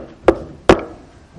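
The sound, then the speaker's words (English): Two sharp knocks on a wooden door, spaced about half a second apart, fairly loud with a short resonant decay after each hit and no one speaking. “And so Bathsheba gets a knock on the door.”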